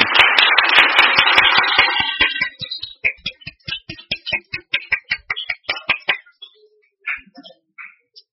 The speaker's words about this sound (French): Je veux les honorer ce matin Je pense qu'ils ont droit à une bonne main d'applaudissements.